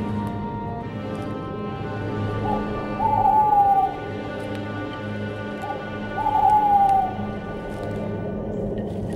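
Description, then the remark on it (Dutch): An owl hoots twice in the Soniewoud forest, a few seconds apart, each call a short wavering tone that sounds fairly distant over a steady low rumbling background. “Misschien klonk in de verte hoogstens een uiltje.”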